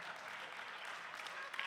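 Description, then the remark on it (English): An audience bursts into applause, a dense, steady wash of many hands clapping at once, holding an even level throughout with no voices over it. “you can applaud if you want.”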